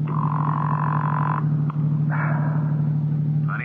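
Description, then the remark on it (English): Steady, loud low engine drone of slow, heavy car traffic, heard by someone driving in it, runs throughout, with a higher whining tone fading in and out on top. No one speaks. “What, in this traffic? I'm practically parked already.”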